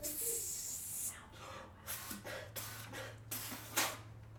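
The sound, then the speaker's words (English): Air hisses from a leaking drum: a steady, bright hiss for about a second, then softer irregular spurts of hissing over a low background hum. “Now, if you listen somewhere over here, the drum is leaking air.”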